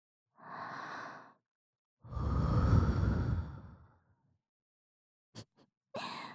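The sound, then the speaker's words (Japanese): Two long, warm breaths are blown into a listener's sensitive ear, soft and airy like sighs, followed by a couple of brief breathy puffs. Close and intimate, no talking. “例えばこのように、勇者様の敏感な耳の穴に温かい吐息を吹き込んでみたり。”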